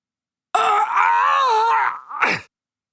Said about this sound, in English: The man whimpers and leans into Dean.